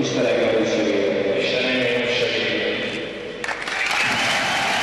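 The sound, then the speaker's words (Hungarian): A crowd at an ice hockey rink gives a loud, sustained ovation with cheering and clapping as hockey player Mihály Árpád becomes a Hungarian citizen on the rink. The roar dips briefly before surging back up with bright, hissing applause. “Kitörő ovációval fogadta a közönség azt a pillanatot, amikor Mihály Árpád a jégkorongpályán lett magyar állampolgár.”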